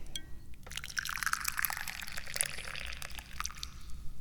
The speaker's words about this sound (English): And this is also the point where we pour some tea, because I need some tea.